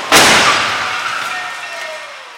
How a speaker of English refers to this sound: Destroying this car in the hopes that maybe its next incarnation can be even safer.